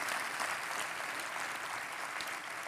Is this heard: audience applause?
yes